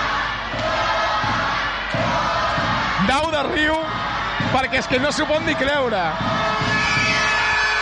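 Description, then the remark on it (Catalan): A dense, steady roar from a large crowd in a basketball arena fills the whole recording, loud and continuous, while an excited commentator speaks over it in the middle section. “Quina cridòria! Quina cridòria!”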